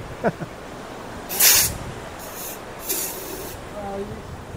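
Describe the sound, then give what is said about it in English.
Two or three short, loud hissing bursts from a fire extinguisher spraying down an ashtray, separated by brief pauses, with faint voices murmuring in the background. “They're spraying it down.”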